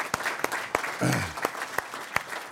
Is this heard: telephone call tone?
no